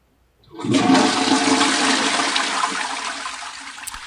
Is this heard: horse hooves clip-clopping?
no